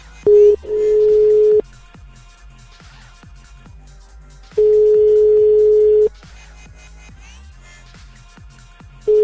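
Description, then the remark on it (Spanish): A phone call to a private home rings: three long steady ringback beeps separated by pauses, with faint background clicks and noise and no one answering. “Tres tonos y no lo coge.”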